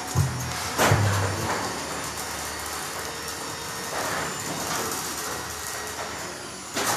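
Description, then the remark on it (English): A garage door grinds and rattles in a steady, loud mechanical rumble for several seconds, with a couple of heavy low clunks near the start and no voices. “For anyone wondering, that was a fucking garage door opening and closing.”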